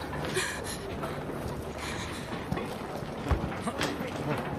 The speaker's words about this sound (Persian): چیزی نیست. یه قایقه.